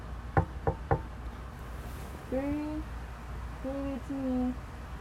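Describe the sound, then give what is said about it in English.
Three quick, firm knocks on a door in a rapid even rhythm, followed by a pause and then brief muffled voice-like sounds. “Don't answer the door. Do not answer the...”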